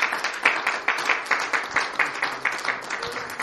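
A church audience claps for God before prayer in a dense, steady burst of applause, many hands striking at once with sharp, bright slaps that keep a loose rhythm throughout.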